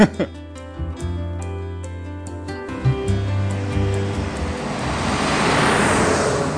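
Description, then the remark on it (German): Heavy traffic on the Kaiserswaldstraße, a busy road cutting through an otherwise quiet village, with trucks from a nearby gravel works: a deep engine drone of large vehicles passing, then a broad rushing swell as a truck goes by, loud and continuous. “Die Kaiserswaldstraße, LKW vom nahegelegenen Kieswerk machen sie zu einer lauten Trennlinie der zwei Ortshälften.”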